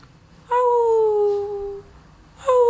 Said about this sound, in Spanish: Se escucha que llora el perro y aúlla como un pequeño lobo.